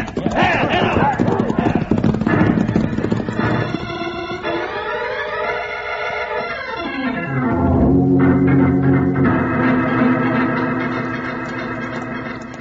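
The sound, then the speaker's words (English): Horses' hooves clip-clop at a quick, steady gallop as a gang rides up a mountain trail toward Batwing Cave, beneath loud dramatic music, with sweeping tones that slide down and then swell back up. “Come on, you monkeys, let's ride.”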